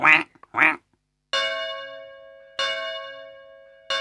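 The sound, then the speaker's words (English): A duck quacks twice in quick succession, loud, when it is the duck's turn in a card game, then three resonant bell chimes ring out at a steady pace, each slowly fading. “It's your turn, Duck.”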